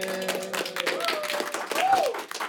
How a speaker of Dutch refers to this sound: Ja, hun stemmen zijn al een beetje opgewarmd. We horen al het applaus al iets beter. Zometeen gaan ze natuurlijk nog harder klappen voor elkaar.